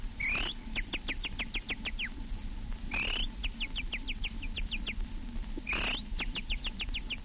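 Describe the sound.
An imitator of the Casino de Paris imitates a warbler's song on a recording: three rapid bursts of sharp, high whistled notes, each opening with a warbling flourish, repeated clearly over a steady low background hiss.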